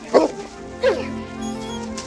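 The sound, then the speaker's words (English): A dog, Shadow, barks twice: a sharp yip near the start and another excited bark a moment later as he is reunited with his best friend, followed by a low, steady hum in the background. “He was a puppy again, reunited with his best friend.”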